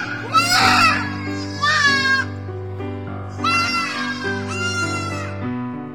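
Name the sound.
song playing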